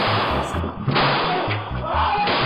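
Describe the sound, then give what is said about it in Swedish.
A few sharp gunshots crack out at irregular intervals against a dense, rumbling wash of noise, sounding muffled; shots are fired at a man as he passes the corner of a house and reaches his car. “precis när han passerat husknuten och kommer fram till sin bil avlossas skott.”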